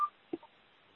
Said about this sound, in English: Could whoever has the beeping mute their phone? Yeah, that's me, I'm sorry, hold on.